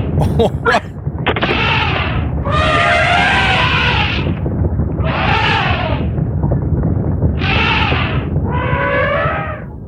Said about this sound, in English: Okay, so what happened there? Elephant stampede. Well, I got that. There was some kind of circus event going on. They got completely loose, and that kind of wrecked that day for me.